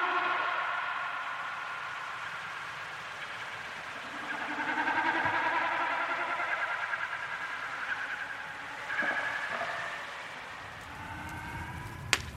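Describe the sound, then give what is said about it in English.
Snipe drumming during a display flight, made by the vibration of the birds' feathers: a soft, throbbing, bleating hum that swells and fades in repeated waves over a low rumble of background noise, with no voices. “The sound of snipe drumming”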